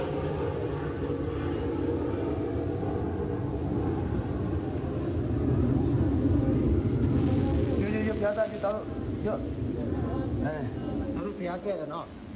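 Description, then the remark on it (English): A military plane circles back overhead during an airstrike, droning in a heavy, sustained low roar that swells and lingers, with agitated voices and shouts of people running rising faintly beneath it toward the end. “But the plane circles back.”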